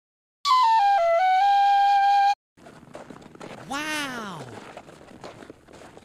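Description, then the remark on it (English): A tin whistle plays a short descending run of four or five clear, loud notes for about two seconds, then stops, giving way to rustling noise and a brief swooping cry. “It's a tin whistle! What's it for? If you would be so kind to let me have it for a moment, I shall show you.”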